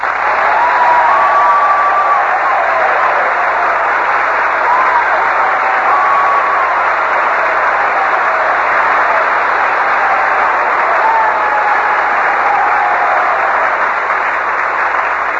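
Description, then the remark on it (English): Sustained applause from a large audience saluting Commander Robert Montgomery for his leadership and courage in the war, a dense steady wash of clapping that holds at an even, loud level for the whole stretch, with faint whistles or voices briefly rising above it. “Well, Robert, you can tell by that applause that these boys are all intensely interested in your Navy career.”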